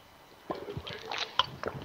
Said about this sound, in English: So, I'm going to take a drink of water because I'm going to be talking for quite a while here.